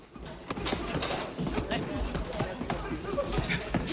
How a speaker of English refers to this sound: Tommy Gunn walks away, punching a bag with frustration on his way out.